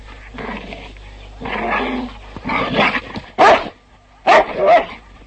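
A dog barks in a series of bursts, several gruff barks followed by two sharper, higher yips, fairly loud and close with no talking.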